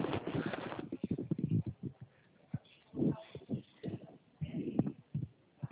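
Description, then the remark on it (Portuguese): Many cattle hooves clatter and thud in an uneven, overlapping rhythm as cattle walk across hard ground on a farm, with a dull, muffled quality and moderately loud bursts. “Olha, olha o vídeo da fazenda que ele trabalha.”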